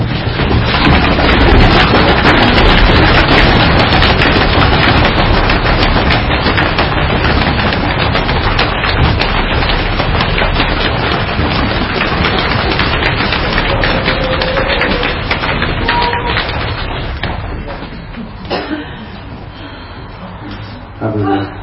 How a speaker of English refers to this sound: Sometimes we can play just bang your feet on the floor.